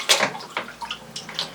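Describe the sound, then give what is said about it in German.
Water being poured from a measuring cup into a cheap disposable diaper, which takes up about one liter, as a series of short, splashy gurgling bursts with brief pauses between them, fairly quiet and with no voices. “So, da hat die billige Windel jetzt tatsächlich 1 Liter Wasser geschluckt. Vielleicht kommen wir ja doch noch an die 3 bis 6 Kilo ran.”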